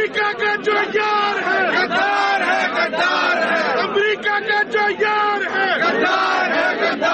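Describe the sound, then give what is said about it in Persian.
A large crowd of Imran Khan supporters in the streets of Islamabad, Pakistan, chants slogans against the United States and Israel and in support of Imran Khan, many voices rising and falling together in a steady rhythmic cadence, loud and continuous throughout. “تظاهر کنندگان شعارهای علیه ایالات متحده و اسرائیل و در حمایت از عمران خان سر دادند.”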